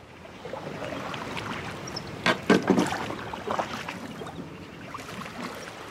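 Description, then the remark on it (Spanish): Water sloshes and splashes steadily, with a few sharper knocking strokes in the middle, as a single oar dips and pulls a small boat through sea water at night. No voices. “Se sentó a la popa, empuñó el remo en su fuerte mano y cortando las aguas del mar y las sombras de la noche, empezó el regreso.”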